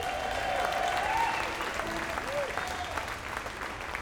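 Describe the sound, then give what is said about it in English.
A crowd applauds steadily for about four seconds, welcoming a mandolin player from Bowling Green, Kentucky; a dense wash of clapping that fades slightly toward the end, with a thin whistle-like tone rising briefly over it early on. “Please make welcome ….”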